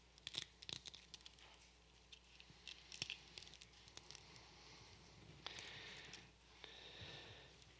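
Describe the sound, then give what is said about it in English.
Scattered crinkling and peeling of thin plastic from many small communion cups being opened at once across a room during a communion service, with sharp clicks and soft rustles overlapping, no talking. “Used to hear the rustling of Bible pages, but now it's the rustling of communion cups.”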